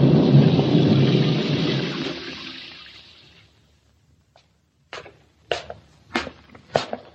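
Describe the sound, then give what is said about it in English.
A loud, rolling thunder rumble, heavy with a wash like rain, fades away over a few seconds. Then comes a short silence and four sharp, evenly spaced knocks or steps. “By the time I got home, the storm outside had stopped”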